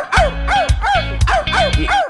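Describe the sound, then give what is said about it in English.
Hillary Clinton imitates a dog in the middle of a speech, letting out four loud barks in a quick, steady rhythm with short gaps between them and no other talking. “began barking like a dog in the middle of a speech?”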